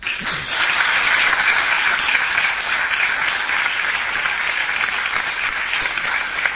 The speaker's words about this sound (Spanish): Repito, es el aplauso. Vamos a aplaudir para... como muestra. Como muestra.